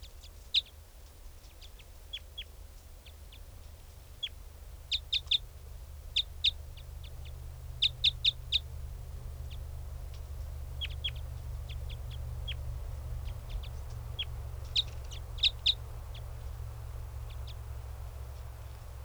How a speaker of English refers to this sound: Still 395 calling. Stop. They're calling. This is one of the birds. Wild bird. That's 395.